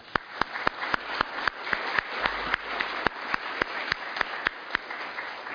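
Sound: round of applause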